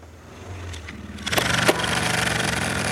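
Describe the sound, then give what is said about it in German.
A tractor engine that is being repaired sputters low at first, then catches and roars into a loud, rough, steady running rumble with a mechanical clatter. “Er ist jetzt auf jeden Fall der Meinung, er kriegt hin, den Trecker wieder zu reparieren.”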